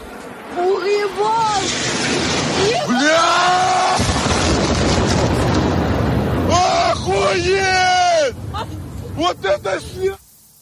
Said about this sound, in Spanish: Pero me parece un sonido espeluznante. Es el momento en el que impacta un misil ruso en Odessa.